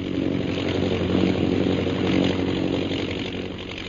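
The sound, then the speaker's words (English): A propeller airplane engine drones steadily overhead as the plane flies back toward the scene of a bombing, a loud, continuous buzzing hum with a low rumbling pitch that holds even throughout, with no voices. “Meanwhile, in the plane overhead, Captain Carstairs directs his pilot, Lieutenant Rogers, to fly back toward the scene of the bombing.”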